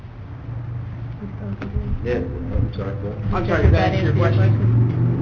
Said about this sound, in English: Yeah. The motorcycle drove by.